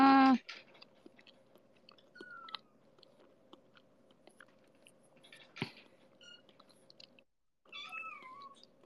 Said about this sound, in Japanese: こういう猫との会話は猫界あるあるだったのか、なんか、こよりの姿を見て、こういうもんなんやなーって、なっておる。